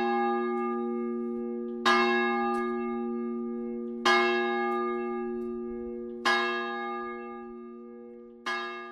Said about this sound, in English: It's actually the sound of St. Mary's Church bell on Chapel Road in the town. Our tour doesn't actually take us this way, but you'll hear the sound of that bell each time we stop.